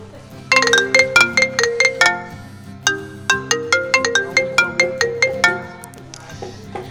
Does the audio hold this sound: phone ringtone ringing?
yes